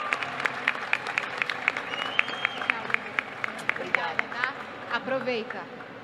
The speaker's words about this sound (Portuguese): Uma salva de palmas, galera, aqui pro Wendell Bezerra.